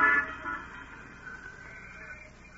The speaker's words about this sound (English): Oh, bless my soul. There's my bus at last.